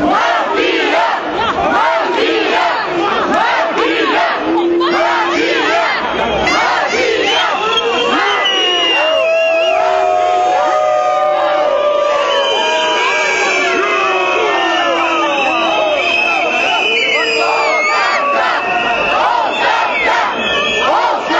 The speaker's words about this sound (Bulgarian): Скандирания вън оставка, всеки ден ще е така до победата и с елате при нас, протеста е за вас